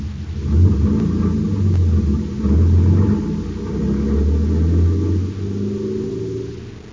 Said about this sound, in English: In the dark interior of the van, Buzz and Happy are aware only of motion. It swerves from side to side as the big truck rumbles to an unknown destination. After several moments, it comes to a stop.